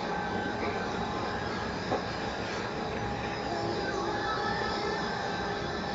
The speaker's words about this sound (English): Is that air conditioner on behind you? Yeah.